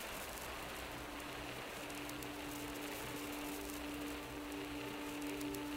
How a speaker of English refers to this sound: Outside, just the roaring sound of water and the wind against the glass.